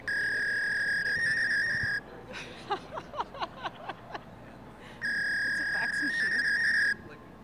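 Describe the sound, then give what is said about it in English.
A phone call reaches a fax machine's number: a loud, steady electronic fax tone over the line, broken by a few seconds of rapid chirping bursts before the same flat, high tone returns. “That appeared to be a fax machine's number.”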